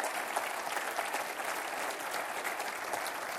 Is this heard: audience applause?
yes